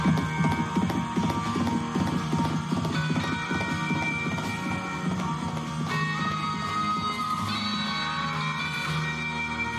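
horse galloping away

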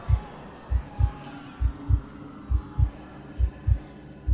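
pounding heartbeat sound effect

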